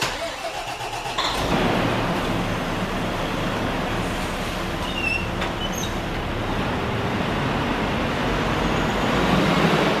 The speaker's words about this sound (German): Das ist ein Rosenbauer Flughafenlöschfahrzeug Panda. Neueste Generation, haben wir jetzt heuer 3 Stück bekommen. Löschleistung, er hat 12.500 Liter Wasser dabei, 1.500 Liter Schaummittel, 250 Kilogramm Pulver, absolut geländegängig,